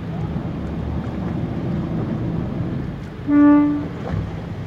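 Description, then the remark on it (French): A dive boat's engine rumbles steadily over water and wind noise as it draws near. Near the end a single short horn blast sounds, signaling the divers to come and hold on to the boat. “Donc là on va s'approcher du bateau et puis hop il va mettre un petit coup de klaxon”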